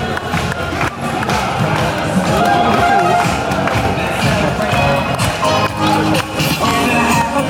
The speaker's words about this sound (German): Diese bejubeln gerade noch die Werbekarawane und hoffen, Kamelle abzugreifen.